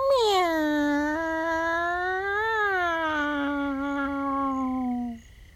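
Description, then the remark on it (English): A person's voice imitates a cat with one long, drawn-out meow lasting about five seconds, starting high, sliding down, briefly rising, then trailing off. It is steady and clear, with no other sounds, and is made during a guided stretching and relaxation exercise. “Give a long meow.”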